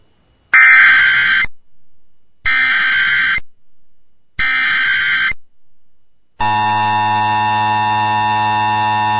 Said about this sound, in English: This is an activation of the Amber Alert system.